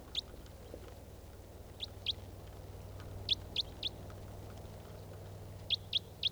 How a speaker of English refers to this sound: There's a wild bird.